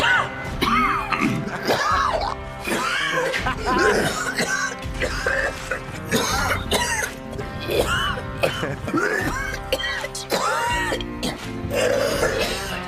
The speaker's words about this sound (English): And meet chemistry teacher Walter White. He's got the kind of cancer that makes you cough a lot.